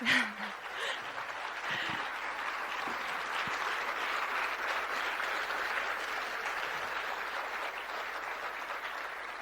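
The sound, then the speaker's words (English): Sustained applause from an audience, a dense, steady wash of clapping that stays fairly loud and even throughout, with a brief voice audible at the very start. “Thanks for the applause.”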